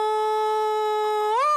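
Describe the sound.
A voice imitates a wailing New York fire engine siren with a long, steady, sustained tone rich in harmonics. Near the end the pitch sweeps upward, like a mechanical siren winding up.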